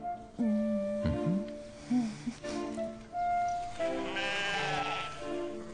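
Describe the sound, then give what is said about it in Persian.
Several sheep bleat across the scene in a place where thorny plants grow, overlapping wavering calls at moderate loudness, some higher-pitched voices joining toward the end, with no one speaking. “چرا این گوسفندا نمردن؟ اینجا هم که خار هست.”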